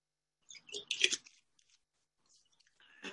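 Someone drinking water: a quick run of short, wet sipping and swallowing sounds, fairly soft, then a pause and one more brief gulp at the end. No talking.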